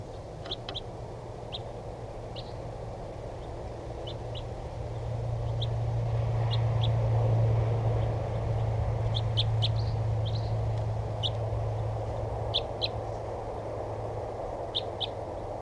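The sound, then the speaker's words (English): A flock of type 2 crossbills, drawn in to decoys, gives sharp, short kip calls, scattered and overlapping, over a steady low rumble of background noise. “They sound like type 2s.”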